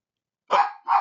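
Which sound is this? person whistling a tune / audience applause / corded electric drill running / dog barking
dog barking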